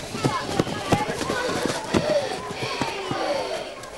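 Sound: children running footsteps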